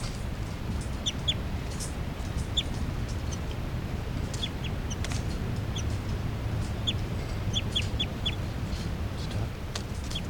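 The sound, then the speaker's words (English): A captive juvenile female bird repeatedly gives short, high-pitched begging calls in scattered bursts at 8:59 a.m., over a steady low background rumble. “That's 384, giving begging calls.”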